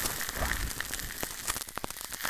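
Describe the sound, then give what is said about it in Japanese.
Carbonated soda fizzes steadily, a soft, dense hiss of tiny popping bubbles with sharper crackles scattered through it. No voices, just the continuous effervescent crackle. “シュワシュワとした炭酸の音に包まれる感じ、気持ちいいですよね。”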